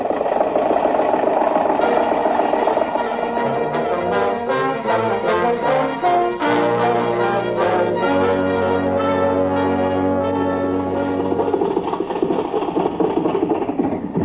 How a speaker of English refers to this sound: Confound your stinking motor car!